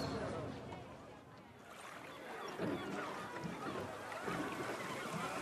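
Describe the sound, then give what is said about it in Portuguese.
In the afternoon, waves wash and slosh steadily against anchored boats, a continuous watery rush with gentle surges, while indistinct voices murmur faintly in the mix. “No dia seguinte à tarde, os barcos ancorados dançam ao sabor das ondas.”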